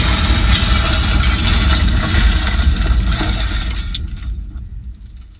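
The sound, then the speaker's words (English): A loud, dense car crash roars for several seconds, with glass shattering and tinkling debris before the noise fades into quiet at the end. “You were in an accident. A rather fatal accident, I'm afraid.”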